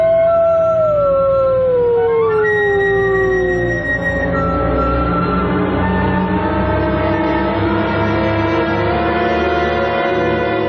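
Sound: wolves howling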